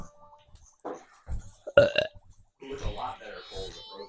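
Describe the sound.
A loud, raspy burp rumbles out in one short croaky burst, followed by muffled, indistinct voice sounds.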